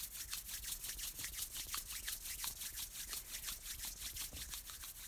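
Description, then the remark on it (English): Steady, brisk rubbing of hands together as part of a chi shower exercise, a dry rhythmic friction that swishes back and forth about four times a second, moderately quiet, with no talking. “So rubbing the hands together.”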